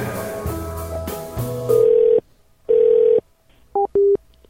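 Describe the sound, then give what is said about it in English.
A telephone ringback tone sounds while calling: two steady half-second tones separated by a pause, then a few quick, shorter beeps, following a brief burst of clattering noise at the start. “It's ringing back.”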